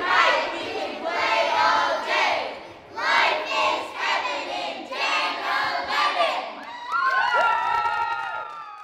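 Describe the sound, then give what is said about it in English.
Girls of Cub Scout Group Den 11 at a rock climbing gym in Mooresville shout their loud, rhythmic group cheer, teaching it to older girls, in bursts of high-pitched voices, ending with rising and falling squeals and whoops in the last couple of seconds. “After about an hour, they decide to teach the older girls their group cheer.”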